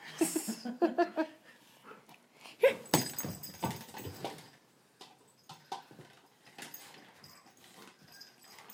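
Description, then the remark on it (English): A dog plays excitedly with a ball that has holes in it, giving a few high whining yelps at first, then scuffling and snuffling amid soft thumps and rustles that come in irregular bursts before settling down. “Throw it for him. Roll it.”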